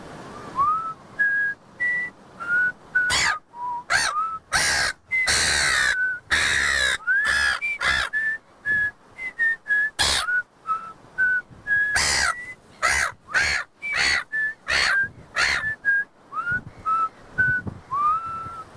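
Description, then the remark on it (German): A person whistles a simple tune in short, clear phrases, fairly loud, while a herring gull answers throughout with harsh, raspy caws squeezed between the whistled notes. “Ich pfeife und du singst.”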